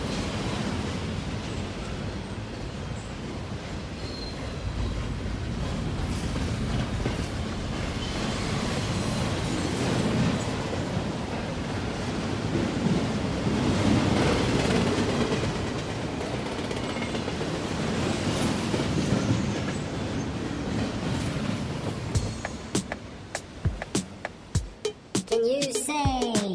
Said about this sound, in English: Chaka choo choo, because that was a train passing by. That's right, boys and girls, that was a train.